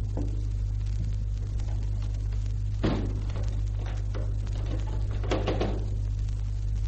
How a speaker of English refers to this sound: Now clear the house. They have gone. Now I shall lock the door on the empty house.